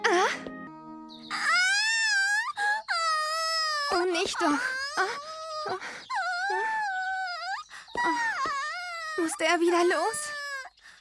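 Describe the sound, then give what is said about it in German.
High, wavering cries and whimpers from a small creature, loud, rising and falling in long wailing bursts with brief breaks, continuing throughout. “Hör schon auf zu weinen,”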